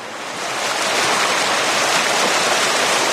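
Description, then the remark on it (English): Water of the Anchor River rushes in a steady, dense wash as people wade in to set up sonar equipment. It swells up over the first second and then holds loud, with no voices. “And with that, it's time to get wet.”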